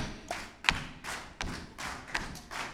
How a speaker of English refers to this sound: All right, let's do a little clapping here. I want you to stomp on the floor on the downbeat and clap on the offbeat.